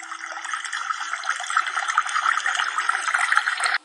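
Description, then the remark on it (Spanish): A steady rush of flowing river water, fairly loud, runs unbroken for a few seconds with no voices, then stops abruptly. “Una hormiga muerta de sed se había acercado demasiado a la orilla del río y había caído en sus aguas.”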